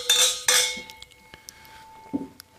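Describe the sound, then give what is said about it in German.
Glasses clink together in a toast: two bright, ringing chimes close together, followed by a few softer taps and a lingering tone, with no one speaking. “Prost darauf. Cheers. Cheers, zum Wohl.”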